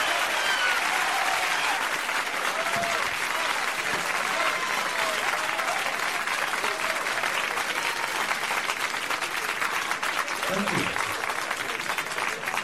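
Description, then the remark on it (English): A large San Francisco audience applauds steadily for comedian Richard Pryor at a comedy show, a dense, loud wash of clapping with scattered cheers and whoops rising above it. “Let's get your hands together and give him a big San Francisco round of applause.”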